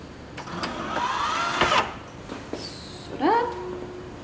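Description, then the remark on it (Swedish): A laboratory centrifuge loaded with blood samples starting up, set to 3500 revolutions per minute for 15 minutes: a few mechanical clicks and clunks, then a motor whine sweeps upward in pitch and settles into a steady, moderately loud hum. “För annars kan man söndra hela centrifugen eller åtminstone kanske få en massa blod överallt.”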